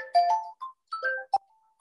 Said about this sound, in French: Excusez-moi, j'ai oublié d'éteindre mon téléphone.